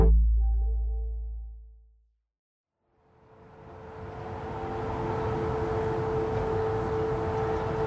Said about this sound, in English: It's 7:07 a.m. and sirens are going off around Kyiv. What sounds like air raid sirens.